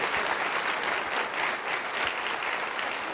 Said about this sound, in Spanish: Aplaudo al Rey de Reyes, señores, señores.